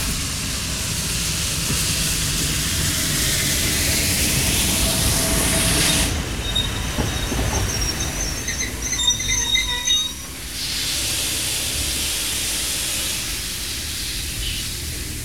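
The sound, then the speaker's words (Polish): A train, carrying arrested prisoners from Kaliski station to the Dachau concentration camp, rolls steadily along the rails with a continuous, fairly loud rumble, and thin metallic wheel squeals ring out through the middle stretch. No one speaks. “Tam na Radogoszczu przebywałem kilkanaście dni, po czym Dworzec Kaliski wsadzili do pociągu i zawieźli do obozu koncentracyjnego w Dachau.”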